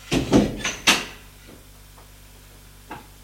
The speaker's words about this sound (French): Il entre. Elle ferme la porte.